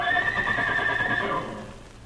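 A horse whinnies once, loud, a shrill wavering neigh lasting over a second before trailing off into a lower, fading breath. No one speaks.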